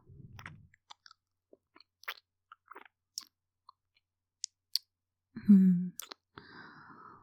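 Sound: kissing sounds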